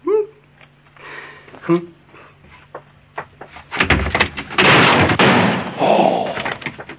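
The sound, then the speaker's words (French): A door is pulled open and breaks loose, a few creaks and knocks building into a loud crash of wood and clattering debris that lasts several seconds. “J'ai juste voulu ouvrir et la porte est venue toute seule.”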